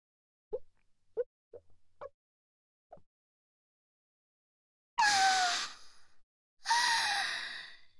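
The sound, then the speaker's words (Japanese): A person drinking beer after a toast: five soft gulping swallows in a steady row, then a pause and two long, breathy, satisfied exhales, like an 'ahh' after a cold drink. No talking. “久しぶりに飲みますが、やっぱりビールは美味しいですね。”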